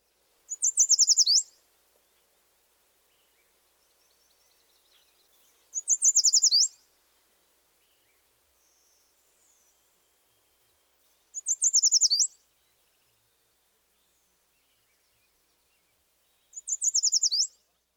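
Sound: yellow warbler song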